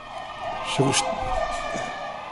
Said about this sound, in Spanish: Bueno, y ya lo veis que estamos en directo y no dejan de pasar ambulancias.